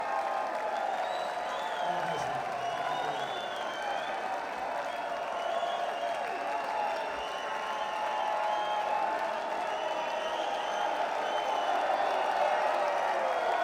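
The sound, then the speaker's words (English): A large live audience applauds and cheers continuously, a dense, steady roar of clapping and voices that holds at an even level from start to finish, with occasional whoops rising above the crowd. “God, I love this crowd.”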